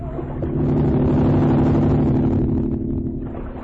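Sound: motorboat engine approaching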